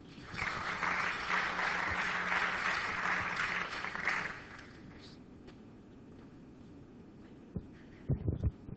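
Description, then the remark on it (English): An audience at a talk applauds to thank the speaker, clapping steadily for about four seconds, a dense wash of clapping that then fades out, leaving quiet room tone and a few faint thumps and rustles. “Well, let's thank our speaker again.”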